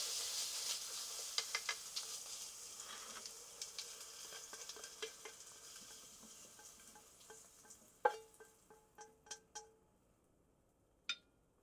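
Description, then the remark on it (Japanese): Konnyaku and paprika sizzle and crackle in a pan as they are stir-fried with butter and soy sauce, with scattered utensil scrapes; the sizzle fades and a few sharp clinks of a utensil against a plate follow near the end as the dish is plated. “全体的に混ざったところで、お皿に盛り付けて、と。”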